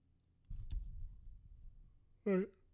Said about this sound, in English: I gotta stop yawning. It's just not good audio.